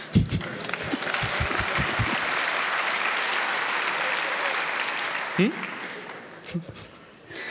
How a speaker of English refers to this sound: Okay, you can clap if you want.